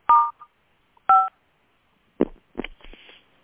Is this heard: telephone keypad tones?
yes